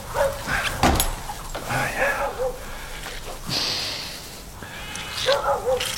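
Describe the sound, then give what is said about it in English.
A sheepdog works around a flock of sheep, keeping the flock away while a lamb is coming. Several overlapping bleats rise and fall, with occasional dog sounds and rustling movement outdoors across the whole stretch. “Good dog.”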